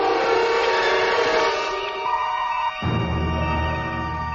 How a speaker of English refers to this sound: Turn the alarm off. Aye, sir.